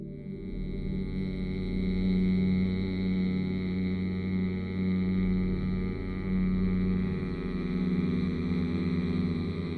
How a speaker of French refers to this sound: Pour le produire, vous allez inspirer à fond par le nez, puis, bouche fermée, les lèvres délicatement posées l'une sur l'autre, vous allez faire vibrer, faire bourdonner le son « mm » tout en expirant par le nez. Comme ça.